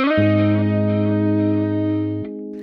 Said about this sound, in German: Oh, dieser Klang von der Gitarre, das klingt immer, als würde unter Wasser jemand so eine Saite spielen. Habe ich extra eingespielt.